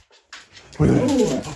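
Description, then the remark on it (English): A dog whimpers, a soft breathy start swelling into a loud, high, wavering whine that holds for about a second. “Are your dogs with you now?”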